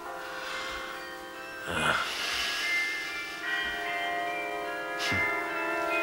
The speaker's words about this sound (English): The bells. My husband used to love the bells. You can hear them so well from here. What are you saying? Bells. I love the bells.